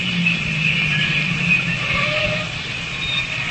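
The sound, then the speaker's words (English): A parked car's engine, left running at the corner of Warrenburg and Paoli Streets, idles with a steady, low rumble that holds evenly for several seconds, a thin higher whine running faintly above it. No one speaks. “Leave the engine running.”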